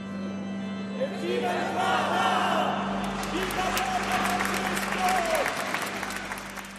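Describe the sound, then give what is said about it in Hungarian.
A crowd of parishioners bursts into sustained applause outdoors in the square in front of a church, bidding farewell to the Pope, dense clapping building after a couple of seconds and continuing steadily, with murmuring voices mixed in and a low steady hum underneath. “A templom előtti térre érve tapssal búcsúztak tőle a plébánia hívei, mondván, milyen szép pillanat volt.”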